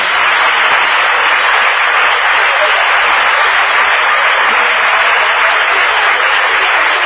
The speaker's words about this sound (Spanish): Aplauden a Cavernet.